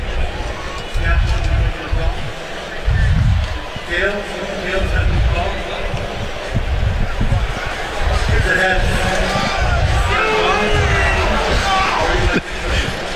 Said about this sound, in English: The Tails crew, apparently in the crowd here, did not like that the coin landed heads as the boos come up.